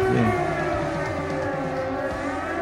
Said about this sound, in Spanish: Una policía. Era una sirena.